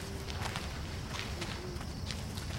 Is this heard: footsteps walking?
yes